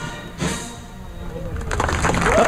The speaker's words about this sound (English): Perfect timing there, the applause.